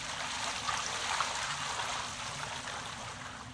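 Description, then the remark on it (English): Water from large jars is poured onto an offering and wood, splashing in a steady, continuous rush for a few seconds, moderately loud, with no voices. “Fill 4 large jars with water and pour it on the offering and on the wood.”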